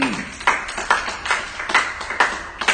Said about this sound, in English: So let's give yourselves a hand clap of praise. Amen.